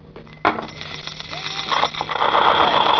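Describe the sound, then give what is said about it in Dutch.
Someone imitates a motor engine with their mouth: a sudden sputtering start, then a rough, rattling buzz that grows louder and more continuous toward the end. “Nou, wat kan je nog meer gekke geluiden maken? Kraak. Hey. Dan hoort die motor ook.”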